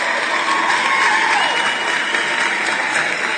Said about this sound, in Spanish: Y vamos a los aplausos, por supuesto.